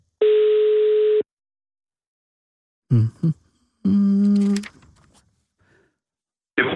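A single steady electronic ring tone of about a second sounds over a phone line as a call is placed to Herning, followed by a pause, then brief voices answering and the start of another tone.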